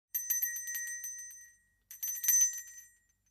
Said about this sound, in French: Nous sonnons à la porte de notre amie.